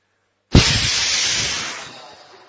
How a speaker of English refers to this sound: He sprayed me with water from his trunk. Where the water came from, I didn't see. I don't know if he sucked water and let it out, or if he was just blowing his nose on me.